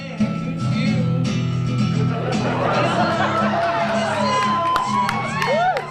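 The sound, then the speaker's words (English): Dense, steady crowd chatter from a large audience at an open projector night film screening, its largest crowd yet, in a bigger venue, fills the whole clip, with overlapping voices, a few higher shouts and whoops rising near the end, and a low steady hum underneath. “This is the largest crowd that an open projector night has pulled in yet.”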